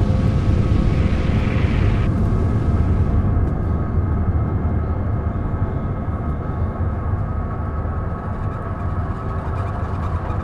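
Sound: airplane flying overhead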